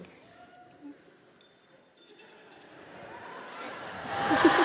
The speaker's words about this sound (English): It's so funny to hear the fucking wind chimes going.